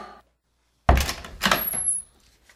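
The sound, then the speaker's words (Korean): The door of a room at an inn is opened by Osip for Khlestakov, with a sharp wooden thunk, followed by a creaking, rattling sweep as it swings, ending with a brief high squeak of the hinge. No one speaks. “오시프가 여관에 방문을 열어주자 홀레스타고프가 들어오며 챙이 달린 모자와 지팡이를 오시프에게 건네주었다.”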